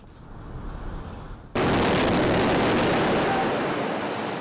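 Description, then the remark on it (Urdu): A low rumble gives way to a sudden, powerful explosion from an Israeli airstrike on Gaza on a Monday night, its heavy roar filling the air and slowly fading over several seconds, with no voices. “پیر کی رات غزہ کے طول و عرض اس قسم کے درجنوں دھماکوں سے لرز اٹھے.”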